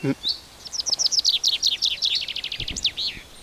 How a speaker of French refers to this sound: Il y a le cri du pinson proéminent.